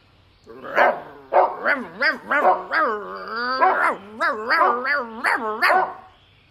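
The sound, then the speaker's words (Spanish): A voice imitates a dog barking loudly with all its strength: a rapid string of about ten woofing barks, with a longer drawn-out yelp in the middle, forceful with nothing else behind it. “Ladró el perro con todas sus fuerzas.”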